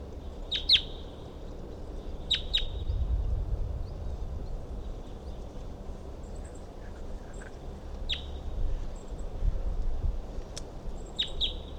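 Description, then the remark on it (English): A wild bird perched on the top of a dead tree nearby calls in short, sharp, high chirps, often in quick pairs, repeating every few seconds over a steady low rumble of background noise. No one speaks. “So recording, I can see a wild bird perched up on the top of a dead tree nearby, and it was calling.”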